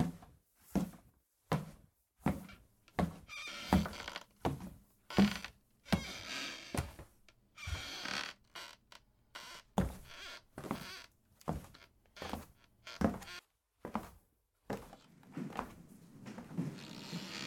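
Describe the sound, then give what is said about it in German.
A steady series of footsteps thud across the wooden floorboards of an old house, each step paired with creaks and groans from the old wood, moderately loud, as people head toward the cellar, with no one speaking. “Das alte Haus knarzt bei jedem Schritt.”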